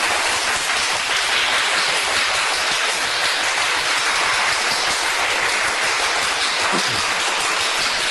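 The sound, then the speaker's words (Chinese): A crowd applauds steadily for about eight seconds, many hands clapping at once into a dense, even roar with no break and no voices. “各位要不要掌声鼓励一下？”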